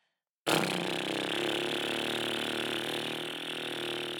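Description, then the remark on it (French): A voice does a lip trill warm-up exercise for the lips, without a sung note, imitating a motor: a steady, buzzing flutter that starts abruptly after a brief silence and holds at an even, fairly loud level for about four seconds. “Ensuite, pour échauffer les lèvres, il y a ce qu'on appelle l'exercice des trilles. C'est un peu comme si l'on faisait le bruit d'un moteur.”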